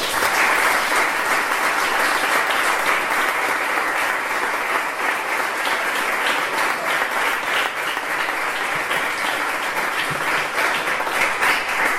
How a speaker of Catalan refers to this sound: Senyor alcalde, senyora regidora de Tradicions i Festes, heu aprovat l'examen, heu vist? Els aplaudiments han sigut unànims.